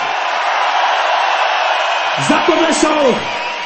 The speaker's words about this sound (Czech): Jsou to odbojáři, zatleskajte jim pořádně!